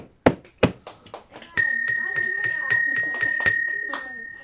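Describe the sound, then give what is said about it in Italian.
A bell is struck twice, then rung steadily and loudly with a sustained metallic ring and rapid repeated clangs, like a wake-up call. “Mi sono organizzato di campana. Sveglia!”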